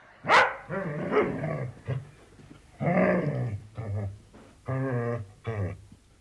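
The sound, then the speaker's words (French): A dog barks repeatedly, a sharp yelp followed by several loud, tonal barks and short growly woofs in an irregular rhythm, with no one talking. “J'ai fini de réparer le bateau mais j'étais toujours triste, du coup j'ai été chercher un chien, il était trop mignon.”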